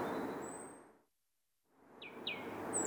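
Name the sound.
birds chirping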